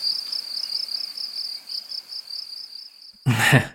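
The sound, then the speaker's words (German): A steady, continuous cricket-chirping sound effect trills at a high pitch, fairly loud, then a brief burst of voice cuts in at the very end. “Hier Grillenzuppen einfügen.”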